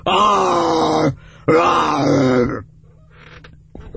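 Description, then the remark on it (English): A person imitates a lion's roar with two loud, rough, drawn-out vocal bursts, each lasting about a second, the second slightly lower and trailing off, followed by quieter breathy noise. “That was my lion roar.”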